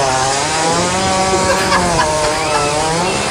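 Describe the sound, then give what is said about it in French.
A loud, continuous hippopotamus call, measured at 114 decibels, a rough buzzing drone with a rich stack of overtones and a slightly wavering pitch, almost like a motorized trimmer, sustained for a few seconds. “C'est un hippopotame.”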